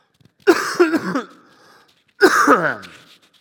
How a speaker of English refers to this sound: I'm going to cough. Just give me just a second.